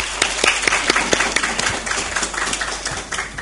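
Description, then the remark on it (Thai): An audience at a Ministry of Public Health meeting claps steadily for a few seconds to encourage the deputy permanent secretary, a dense spread of overlapping hand claps at moderate volume, with no voices over it. “ขอบคุณท่านรองปลัดครับปรบมือให้กำลังใจท่านหน่อยครับ”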